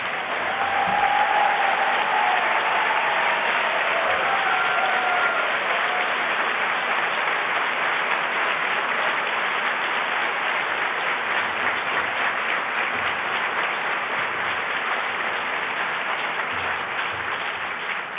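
A large audience applauds steadily for the whole stretch for a man honored in a speech, a dense, sustained wash of clapping that holds its level throughout with no talking over it.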